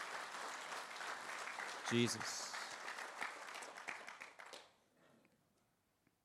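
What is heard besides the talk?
audience applause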